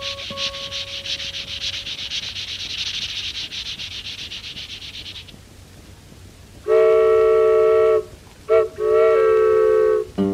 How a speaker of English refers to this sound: Wood, train going south. Birmingham, the first stop.